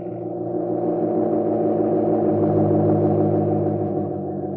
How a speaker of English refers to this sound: For a short while later, they see a car come out of the country club drive. The car comes toward them and then passes. From behind the tree, Rusty exclaims, Hey, there's Sir Percival's car, Pete.